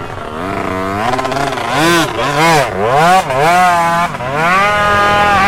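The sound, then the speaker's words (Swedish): A Yamaha motorcycle ridden by rider number 52 churns slowly and methodically through the peat bog at Guggesmyr, its engine pitch rising and falling in repeated revs, loud and steady with no talking. “Förare nummer 52, en Yamaha-förare som passerar också lugnt och metodiskt. Ser fint ut. Smyger liksom igenom myren.”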